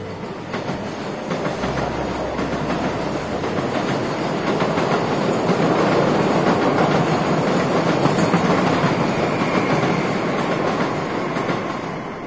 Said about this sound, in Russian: Да, скорее всего, поезда проходят часть пути поверху.